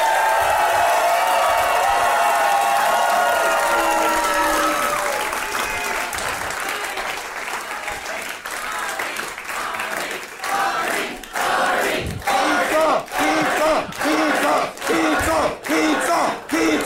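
A crowd applauds and cheers loudly, with whoops and shouts over dense clapping that thins into sharper, scattered claps toward the end.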